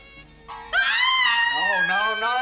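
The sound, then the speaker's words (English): A loud, shrill scream sound effect, played by mistake, bursts in after a brief quieter lead-in, holding for nearly two seconds with a wavering, wailing pitch before trailing off slightly. “Sorry. Scream was in the last scene.”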